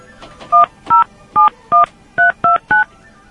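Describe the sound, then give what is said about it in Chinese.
A phone keypad being dialed as a call is placed before it is forwarded to voicemail: seven short, loud dual-tone beeps in a steady series, each a distinct pitch, sounding clear against a quiet background. “您的电话将转接到语音信箱。”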